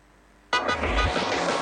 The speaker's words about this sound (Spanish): A los bocinazos. Abriéndonos paso a través de la realidad. Todo este ruido.